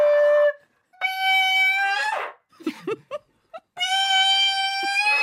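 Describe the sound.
A voice sings loud, high-pitched held notes through a megaphone at a glass being held up, harsh and buzzy with bright overtones. Three sustained tones are separated by a short stretch of brief, scattered sounds.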